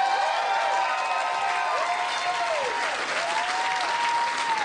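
A crowd bursts into steady, dense applause with a few high whoops and cheers rising over the clapping, sustained at an even loudness throughout, a big round of applause thanking someone for making the event happen.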